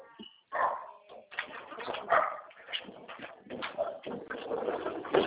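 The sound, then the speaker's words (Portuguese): A female dog barks and yelps in a steady string of short, excited bursts that keep going throughout, fairly loud, with no clear talking over it. “Ah, não morde ninguém, não.”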